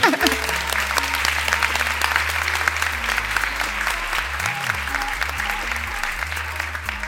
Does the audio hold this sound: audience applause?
yes